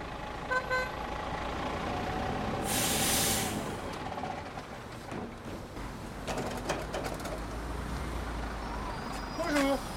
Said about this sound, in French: On y est. C'est un gros bus, c'est impressionnant parce que ça prend de la place. C'est un bus de 13 mètres, donc il contient 61 vélos et qui nous permet de faire de la livraison de grosses quantités sur la Croix-Rousse, très tôt le matin